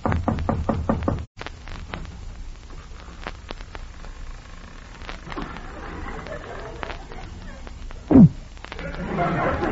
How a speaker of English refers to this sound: Knock on the door.